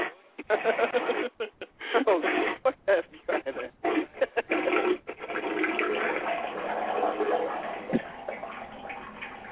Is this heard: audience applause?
no